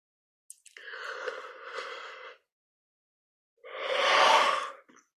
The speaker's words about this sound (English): By the way, my yawns are not from fatigue. It's one way that energy releases through my body.